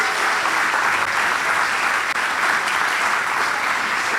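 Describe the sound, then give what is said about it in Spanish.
Sustained audience applause for the boys, a dense, steady wash of many hands clapping at an even loudness throughout, with no voices standing out above it. “Un aplauso para los chicos, tremendo, tremendo.”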